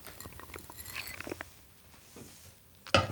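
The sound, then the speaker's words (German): Someone quietly takes a sip of water: soft, irregular wet mouth clicks and small swallowing sounds, ending in a brief louder burst, with no talking. “So, einmal kurz einen Schluck Wasser trinken.”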